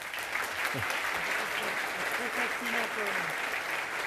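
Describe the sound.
A crowd applauds steadily for several seconds, a dense wash of clapping at an even level throughout, with faint voices mixed underneath.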